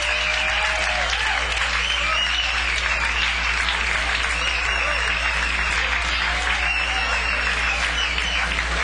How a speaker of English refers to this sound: How about a nice round of applause for the band? Let's get a band a nice round of applause.